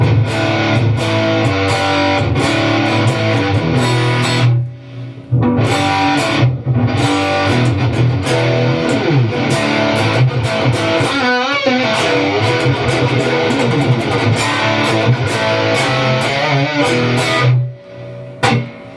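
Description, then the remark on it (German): A heavily distorted electric guitar played through a 5150 amp profile plays dense riffs and chords with a high-gain tone and a touch of reverb, loud and continuous with brief pauses, no voices. “Genau, es ist jetzt ein 5150-Profil hier gerade, was wir hören. Wo wir mehr Gain natürlich noch brauchen. Natürlich mit ein bisschen Hall drauf.”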